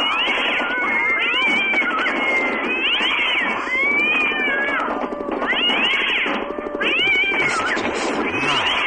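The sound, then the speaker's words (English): A dense chorus of many cats meowing and yowling at once, overlapping wails rising and falling continuously, loud, with no talking. “There's a whole bunch of cats.”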